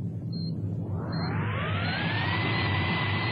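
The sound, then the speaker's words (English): A vessel's engines are started and run full astern: heavy, steady engine rumble swells as a rising mechanical whine spins up and levels off into a loud, sustained roar, with two brief high beeps at the start; no voices. “Start all engines.”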